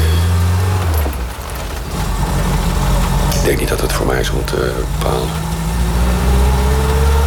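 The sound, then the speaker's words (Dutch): A classic convertible car's engine hums steadily while driving, a loud, low drone running the whole time beneath a man's conversational speech. “Maar toen ik helemaal gewend was, het rijdt is echt fantastisch. Het stuurt super.”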